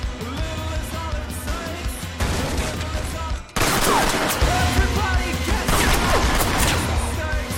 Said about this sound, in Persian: تیراندازی شده. درخواست پشتیبانی و هلیکوپتر داریم.